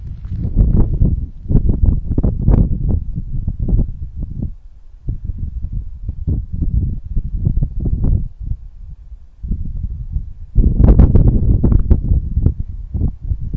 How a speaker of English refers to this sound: Breeze. There's the cars. Okay, I'm walking. I don't hear the thunder though, but it's incredible.